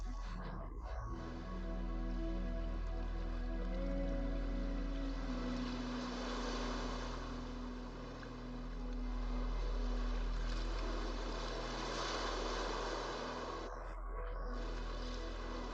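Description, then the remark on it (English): Ocean waves wash steadily, swelling gently and easing back in slow cycles, with a constant low droning hum underneath and no talking. “Close your eyes and simply focus your attention on the sound of the waves.”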